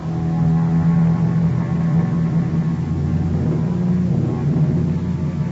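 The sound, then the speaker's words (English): A rented car's engine drones steadily as it drives to the town of South Fork, California, a continuous low rumble that stays fairly loud throughout, with no voices. “a rented car to take me to the town of South Fork.”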